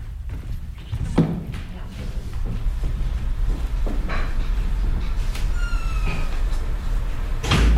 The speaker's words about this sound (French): Attends, je ferme ma porte.